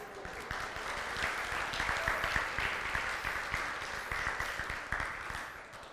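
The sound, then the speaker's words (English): A church audience applauds steadily for several seconds to congratulate an engaged couple, dense overlapping claps at a fairly even loudness with a faint murmur of voices underneath. “Stand up so we can clap and say congratulations.”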